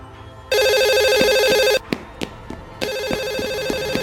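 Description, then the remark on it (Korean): A phone rings in two loud bursts of a bright, repeating electronic tone, separated by a short gap with a few sharp clicks and taps, as a call comes in after climbing to the 13th floor of an apartment building. “그런데 13층까지 올라갔는데 전화가 온 거예요.”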